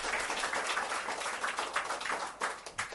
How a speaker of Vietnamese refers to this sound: Xin quý vị một tràng pháo tay để cung thỉnh Đại Đức.